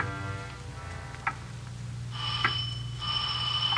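front doorbell ringing

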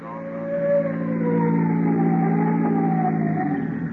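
police car siren

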